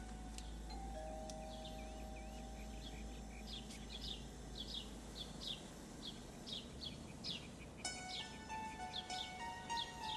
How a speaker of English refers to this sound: He gets out and rings the doorbell.